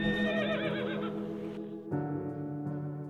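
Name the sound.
horses neighing nervously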